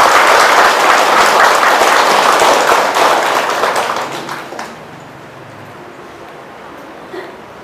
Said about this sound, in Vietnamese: Xin quý vị hãy cho một tràng vỗ tay thật lớn để đón nhận.